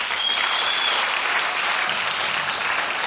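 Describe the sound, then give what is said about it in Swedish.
An audience at a church service applauds the worship team steadily, a dense wash of many hands clapping at once, loud and sustained throughout with no pauses or voices rising above it. “Tycker ni ska ge lovsångsteamet en stor applåd?”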